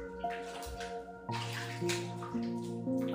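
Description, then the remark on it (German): Bathwater in a full bathtub sloshes and splashes in a few bursts as someone climbs in after a small pig named Sunny has been placed in the water, over a steady, sustained musical tone in the background. “Dann setzt du Sunny vorsichtig in das Wasser und kletterst selbst hinein.”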